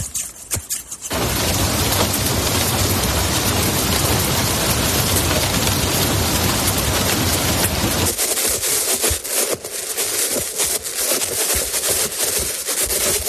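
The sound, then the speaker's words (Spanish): Steady, loud rain hisses for several seconds, then gives way to sharper metallic snips of hairdresser scissors and light tapping knocks from a hand wearing metal gloves, arriving in quick, irregular bursts. No one speaks. “En este caso se trata de unas tijeras de peluquero, la lluvia y los golpes de una mano con unos guantes de metal.”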